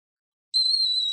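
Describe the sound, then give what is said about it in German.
A kettle on a gas stove starts whistling abruptly late at night, a steady, piercing high tone with a faint upper overtone that holds at constant loudness, alone without any talk. “Der pfeifende Kessel auf dem Gasherd riss Rasmus am späten Abend aus seinen Gedanken.”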